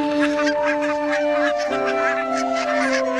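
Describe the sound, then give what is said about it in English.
A flock of barnacle geese honks and yelps in a busy, overlapping chorus, set against a steady sustained musical tone that shifts pitch partway through. “So even today, barnacle geese tell a tale as old as medieval times.”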